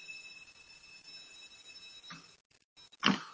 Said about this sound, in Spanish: Bueno, ya acaba de tocar el timbre